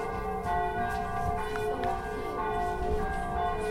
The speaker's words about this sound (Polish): Hej, chłopcze! Nie wiesz, co się dzieje? Czemu ten dzwon tak donośnie bije? Przecież to pierwszy dzień wolności!